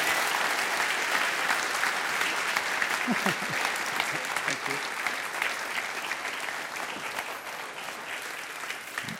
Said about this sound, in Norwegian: So, big applause. Many thanks.